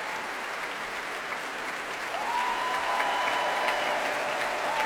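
Steady, dense applause from a large crowd at a BBC Proms concert fills the whole stretch. It is for BBC Philharmonic players, including the Principal Bassoon and Principal Horn, after a Tchaikovsky symphony. A thin sustained whistle or tone slides in partway through and holds above the clapping. No one speaks.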